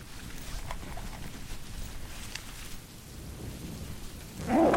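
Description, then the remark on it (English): Steady rain hisses continuously beneath a low, rolling rumble of thunder, building to a louder surge of downpour in the final moments. No one speaks. “The rain's coming, okay?”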